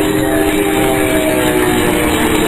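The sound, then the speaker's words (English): The failing engines of an Army bomber diving at 2,000 feet over Jersey Flats, Bayonne, New Jersey, roar in a loud, unbroken drone with a steady mechanical whine, continuous, with no voices and no pause. “Engines are giving out.”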